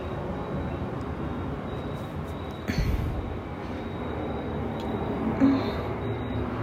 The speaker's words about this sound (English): Oh my God, how many planes are passing over right now? Jeez.